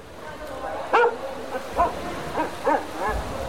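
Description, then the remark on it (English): A man's voice, presented as Michael Phelps, mimics a dog, giving about five short, yelping barks spaced unevenly over a few seconds, the first one loudest, against a faint background hiss. “You can win a full-size working tungsten replica of British gymnast Beth Tweddle, or an audio souvenir of Michael Phelps impersonating a dog.”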